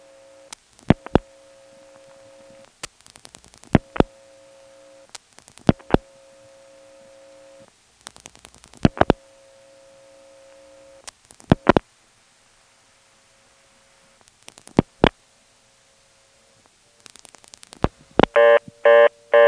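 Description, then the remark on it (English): Telephone line sounds with a steady tone broken by sharp clicks at intervals, then a phone bell starts ringing in rapid bursts near the end as a callback circuit from Kenley, in the Carolina Telephone area, rings the caller's own phone. No one speaks. “Now from Kenley, which doesn't have ESS ring, here's a regular use of the callback circuit to ring my own phone.”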